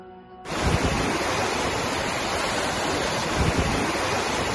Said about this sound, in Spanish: Ojo, y va a aumentar. Algunos de estos embalses se han visto obligados ya a soltar agua.